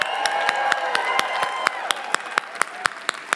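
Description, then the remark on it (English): A crowd at a two-day Growth Day group event claps together for having had a life-shifting insight, in a steady, rhythmic beat, sharp claps landing about four times a second, while whoops and cheering voices ring out underneath. “Oh, that's the clap you give for a life shifting insight?”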